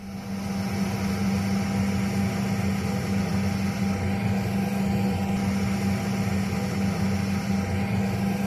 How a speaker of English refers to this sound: Now, depending on the volume you're listening to the radio right now, I'll give you a few seconds of aircraft cabin noise to get familiar and to adjust your radio volume to the volume it would be inside an aeroplane.